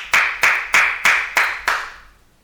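Six sharp, hard hand claps in a steady rhythm, loud and close, each crack bright and harsh with a short ring after it, then fading out. No voices.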